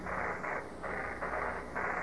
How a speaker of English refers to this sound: The static has a muting device on it, this signal coming from the command module. It's an electronic muting device which comes in and goes back out, and it almost seems to pulsate.